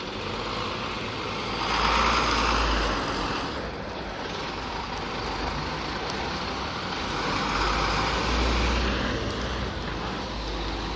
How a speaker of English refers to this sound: Here comes a couple of big trucks.